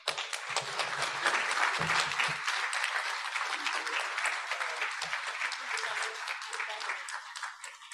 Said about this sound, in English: Let's have one more round of applause for Secretary Beatty. That was excellent.